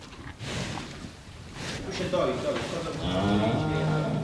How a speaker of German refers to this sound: Ich stehe vor dem Stall und schaue mir die Kühe an